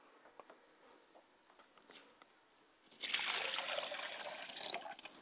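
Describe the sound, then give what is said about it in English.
A few faint drips and taps, then a steady stream of liquid being poured out to the north as a libation, splashing and continuing to the end, with no talking. “I pour libations to the north, and I say libation.”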